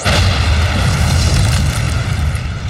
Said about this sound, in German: Du solltest doch nur die blöden Türen in die Luft jagen.